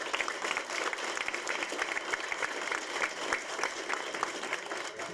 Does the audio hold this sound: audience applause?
yes